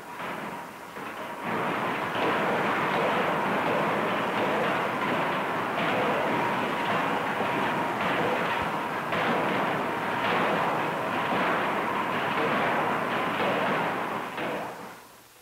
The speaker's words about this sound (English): The connecting rod starts as a steel blank of the proper size, called in the trade a multiple, which is heated in the furnace until the steel becomes somewhat plastic and will flow under the blows of the hammer.